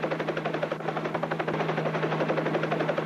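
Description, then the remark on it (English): Loud, steady helicopter rotor noise heard from inside a Fox 2 News helicopter flying above a house: a rapid rhythmic chopping throb over a constant low engine hum, filling the whole stretch without voices. “We're in a helicopter right now. We're above your house.”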